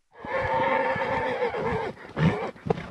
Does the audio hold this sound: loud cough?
no